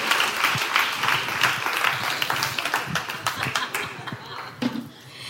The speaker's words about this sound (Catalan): Un fort aplaudiment